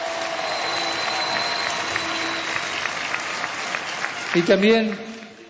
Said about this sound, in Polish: A także młodzież pochodzenia afrykańskiego. Również oni mieli swoje spotkanie i oni wyprzedzili nas. Jeszcze raz, kolejne brawa.